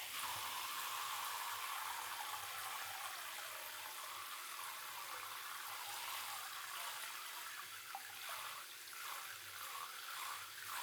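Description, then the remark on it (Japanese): Steady running water pours continuously, like a shower rinsing off soap suds, a full, even hiss lasting about eleven seconds with no one speaking. “そろそろ流してください。泡が目に入っちゃうから。”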